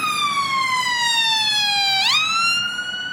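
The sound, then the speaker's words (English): A loud ambulance siren wails as it passes on a very busy road outside a school in South London, its tone sliding slowly downward for two seconds before sweeping back up, with faint traffic rumble underneath and no voices. “Lots of kids on narrow pavements, lots of cars zooming by, traffic jams, bus just went past, an ambulance, so it's busy, really busy.”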